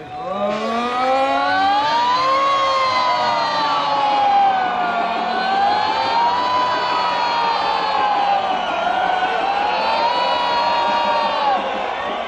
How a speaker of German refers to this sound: Gut 8000 Frauen, Männer und Kinder folgten, wie eben gehört, dem Aufruf der Schüler, die Sirenen ertönen zu lassen, die am vergangenen Samstag nicht funktioniert hatten.